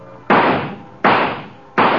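Three sharp, evenly spaced rifle shots at bird targets in a shooting gallery, each a loud crack that rings out and fades quickly, with no talking in between.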